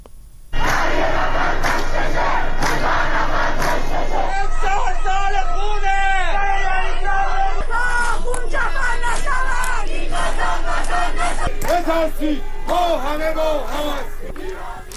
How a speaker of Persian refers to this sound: در پی این هشدارها تعدادی از شهروندان در مقابل زندان رجای شهر تجمع کردند. در همین حال خبرها از ترافیک سنگین در خیابان‌های منتهی به زندان و تجمع شهروندان در مقابل زندان حکایت داشت که در حال شعار دادن بودند.